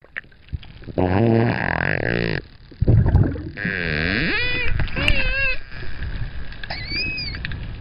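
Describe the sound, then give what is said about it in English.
A dolphin squeals and whistles in a run of high, warbling calls that swoop up and down in pitch, coming in several bursts with brief pauses between them, loud. “That sounds a lot like a dolphin to me, Sarah.”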